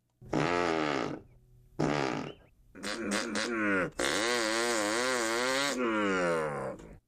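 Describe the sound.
A man's voice imitates a two-horsepower chainsaw: two short buzzing revs, a sputtering stutter, then a long loud rasping drone whose pitch wobbles up and down before cutting off.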